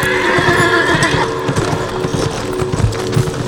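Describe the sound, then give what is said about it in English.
A horse, Sundown, whinnies loudly, its cry rising over a rapid drumming of hooves as it bolts into a gallop while its rider struggles to stay seated; no one speaks. “He struggled to stay seated as Sundown took off like a bolt of lightning.”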